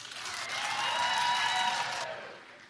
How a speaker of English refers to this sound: Should she suffer? All right, clap if you think she should suffer.